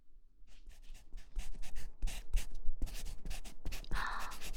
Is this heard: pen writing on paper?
yes